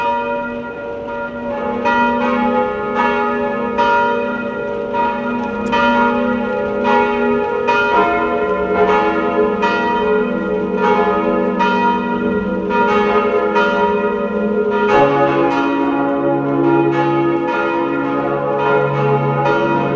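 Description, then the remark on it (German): The bells of the baroque parish and pilgrimage church on the Sonntagberg, a 700-metre hilltop near Waidhofen an der Ybbs in Lower Austria, ring at noon, pealing together in a full, continuous ringing, their overlapping strikes forming a dense, resonant wash of tones with no voices present. “Sie hören die Glocken der Pfarr- und Wallfahrtskirche Sonntagberg in Niederösterreich.”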